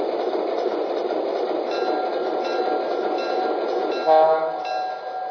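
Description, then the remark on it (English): A passenger train arriving at Pequot station on track one, train number 115 from Pittsburgh, rumbles steadily with a continuous rolling roar, and a brief tonal horn-like blast rises near the end. No one speaks. “arriving from Pittsburgh on track one, train number 115, the fourth gauge.”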